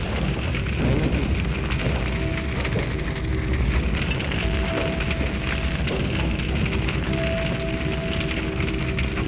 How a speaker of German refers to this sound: Das Feuer reißt die Wände an sich, Tapeten brennen. Die Texte und Bilder verlieren sich in der Wut der Flammen.